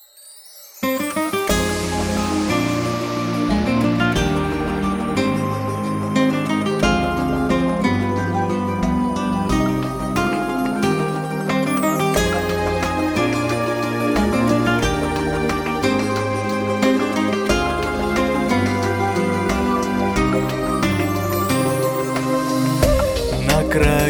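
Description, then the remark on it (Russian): After a brief moment of quiet, the instrumental introduction of a duet song begins, with full, steady melodic accompaniment and a rhythmic bass line playing at even loudness without any singing yet. “в нашей программе звучит песня в исполнении”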